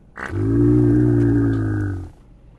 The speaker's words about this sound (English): When we played back these vocalizations to elephants for the first time and saw them freezing, and then a whole group of elephants, 15 to 20 individuals, all freezing, then leaning forward onto their front legs